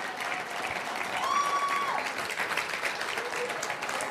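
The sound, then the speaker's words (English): An audience gives Jesus a big hand clap, with steady, dense hand clapping that holds throughout, joined briefly by a thin whistle-like tone that rises and holds near the middle. “Hey, why don't we give Jesus a big hand clap?”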